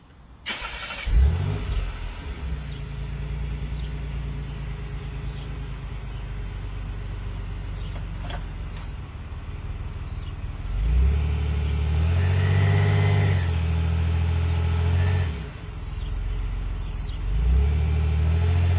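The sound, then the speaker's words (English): A car engine cranks and catches, settles into a steady idle, then, held in gear, revs up strongly to about 2,000 rpm for several seconds before dropping back, with another brief rise near the end. Loud, no talking. “What I'm going to do is start it, put it in gear, step on the gas a little bit.”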